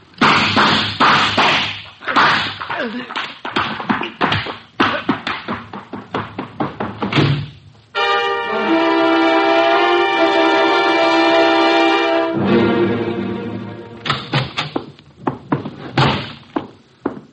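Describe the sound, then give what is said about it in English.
A rapid, loud series of door bangs and thuds, then a sustained tonal chord rings out for several seconds before more banging resumes. No one speaks. “you know I dislike the banging of doors.”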